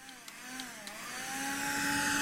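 A vacuum cleaner motor spins up and runs, its steady droning whine with a higher tonal hum growing louder over a broad rushing hiss, with a few faint clicks at the start.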